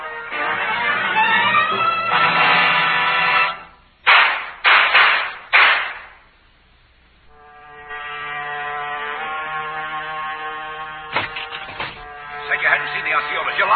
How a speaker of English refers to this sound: that shooting just now. They tried to get away. I killed them both.